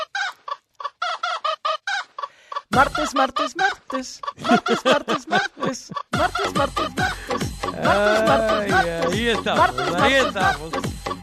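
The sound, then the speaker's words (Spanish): Chickens cluck in quick, repeated bursts, then a busier, louder stretch as a rooster crows with long rising and falling calls over the continuing barnyard clucking. “A ver, échame el gallo de los martes en la mañanita.”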